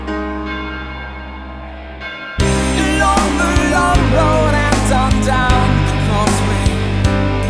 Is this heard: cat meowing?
no